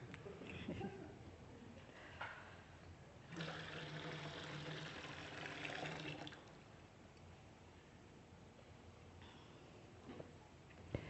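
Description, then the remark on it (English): Warmed water pours steadily for about three seconds into a baptismal font, a splashing rush, with a quiet background and faint murmurs before and after. “The water has been warmed.”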